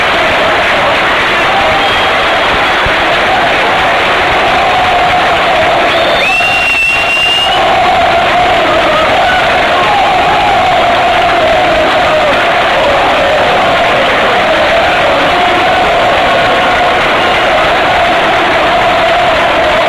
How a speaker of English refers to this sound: It's commemorating a very famous football player and a coach, a former national coach of the English team, with a minute of applause. And the marker of respect to the late great Robbie Robson, former manager of Newcastle United in England.